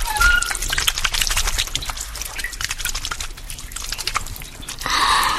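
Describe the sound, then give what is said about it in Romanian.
Water splashes and drips in quick, irregular drops as a bucket is drawn up from a well with a rope and pulley, a wet trickling patter that continues throughout before a brief louder rush of water at the end. “Uite și apa.”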